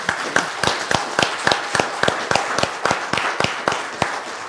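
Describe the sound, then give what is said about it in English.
Applause with sharp, evenly spaced claps, roughly four per second, over a dense wash of scattered clapping. It stays steady and fairly loud throughout, with no talking. “This feels like we need to have an applause or something.”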